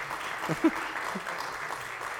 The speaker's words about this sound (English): I legit thought he was really clapping, and I was like, oh, they're making him clap. I was so impressed there for a second.